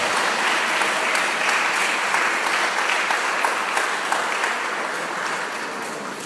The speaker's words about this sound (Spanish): Ponte de pie, por favor, y dar un aplauso al Señor con todas tus fuerzas.